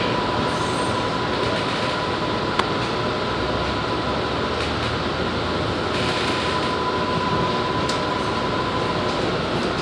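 A train car rolls steadily along the rails toward North Station, next stop Cleveland Circle, a loud, continuous rumble with a thin sustained whine and an occasional sharp clank from the wheels.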